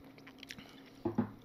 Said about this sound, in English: He drinks whiskey on his show. Cheers. Doing it now.